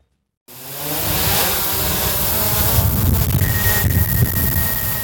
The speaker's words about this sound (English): The sound of a drone taking flight is music to the ears of former pilot Tom Kasker, whose drone business is now offering work to thousands of airline pilots, many of them grounded during the pandemic.